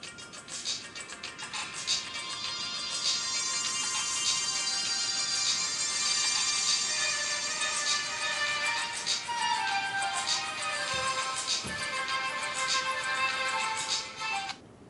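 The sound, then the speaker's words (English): Five phones play the same Mozart melody in unison, bright and tinny with slightly overlapping tones, filling the space steadily for the whole stretch with no talking. “Now, if you can imagine, four phones playing, well, excuse me, five phones playing the same song at the same time, this could be actually pretty loud.”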